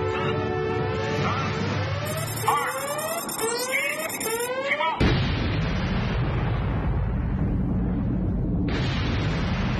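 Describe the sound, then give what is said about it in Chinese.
Rising, sweeping electronic tones give way halfway through to a sudden, massive atomic bomb explosion, China's first atomic bomb test in October 1964, its deep, broad roar rumbling on loudly and continuously to the end. “1964年10月，中国第一颗原子弹爆炸成功。”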